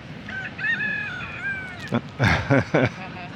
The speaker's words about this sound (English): Even the rooster acknowledges and greets us many times.